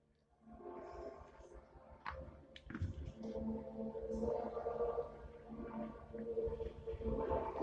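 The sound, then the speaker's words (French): A long, drawn-out burp, made as a toast to the health of the chief, low and gurgling, rumbling on for several seconds with a voiced, croaking tone that swells slightly in loudness before it ends; no talking. “Et je rote à la santé de notre chef.”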